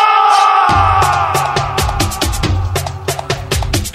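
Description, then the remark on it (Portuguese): A loud, packed crowd of Remo football fans chants and cheers in the stands, their massed voices carried along by steady, rhythmic thumping beats that continue throughout. “Torcida do Remo aí, porra!”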